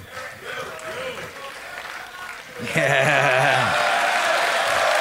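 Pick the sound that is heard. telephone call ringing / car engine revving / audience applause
audience applause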